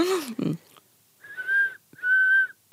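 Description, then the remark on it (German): A person whistles to duet with a nightingale: two steady, clear whistled notes held at one unchanging pitch, each lasting about half a second with a short gap between them. A brief breathy vocal sound comes just before them. “Und zwar ist es ein ganz sonores, muss auch gar nicht lautes Pfeifen sein, wo man die Frequenz nicht verändert.”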